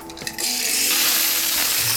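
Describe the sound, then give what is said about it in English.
A dense cascade of coins pours out of two heavy jars, a bright continuous jingling and clattering that starts with a few clinks and swells into a steady metallic rush, fairly loud, with no voices. “Now I have two jars. And they're heavy. Did you hear that? Yeah! They're filled with coins! Pour them out!”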